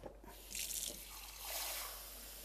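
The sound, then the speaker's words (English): Water runs from a tap in a steady hissing stream, swelling briefly and then continuing, with no voices, as a cup is filled at a sink for making dogh, an Iranian yogurt drink. “And fill up a cup of water.”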